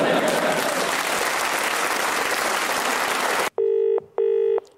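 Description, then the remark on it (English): Loud applause fills the first few seconds, then cuts off as a telephone rings in two short, buzzy bursts with a brief pause between them. “you're answering the phone.”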